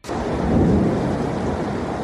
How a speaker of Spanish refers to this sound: Eso que estás escuchando es el río Benamargosa aquel día, desbordado, bajando con muchísima fuerza por el pueblo, anegando todo a su paso de agua y de barro en un denso color marrón, arrastrando pues cañas, todo tipo de residuos.